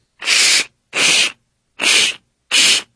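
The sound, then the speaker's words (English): A voice imitates scissors cutting cardboard with four evenly spaced, harsh, hissing bursts, each about half a second long with short gaps between, loud and steady with no talking. “Cardboard being cut with scissors.”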